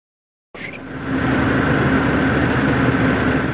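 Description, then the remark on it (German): After a moment of silence, the diesel engine of a passenger riverboat on the Oder river starts up and settles into a steady, even, continuous low chugging drone with a rough, throbbing texture and a faint whine above it. “Der Motor tuckert gleichmäßig vor sich hin, es riecht nach verbranntem Diesel.”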